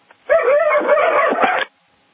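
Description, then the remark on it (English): Several dogs on a farm, contending for position, bark and yelp over one another in a loud, continuous burst lasting about a second and a half, then stop abruptly. No one speaks. “has some dogs that he has in his farm. Contending for position.”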